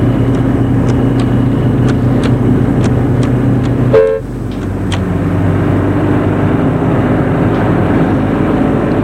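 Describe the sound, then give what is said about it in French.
A car engine hums steadily amid city traffic at Place de l'Étoile, with a short horn toot around the midpoint, after which the engine noise drops slightly as the chauffeur stops the car; faint regular ticks continue. “Et le chauffeur arrête la voiture.”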